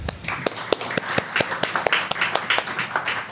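An audience applauds steadily to welcome a speaker, a dense patter of many hands clapping with sharper individual claps standing out, sustained for a few seconds without any talking.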